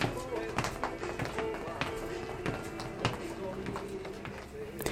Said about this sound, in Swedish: Fötter stampar försiktigt när deltagarna i sittjumpan hos Synskadades Riksförbunds lokalförening SRF Gotland lyfter benen som om de gick.